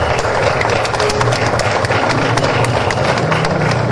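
A crowd applauds steadily for several seconds for the owners of the Recova in the centre of the capital, a dense wash of many hands clapping at once with sharp, crackling claps throughout and no pause in the loudness.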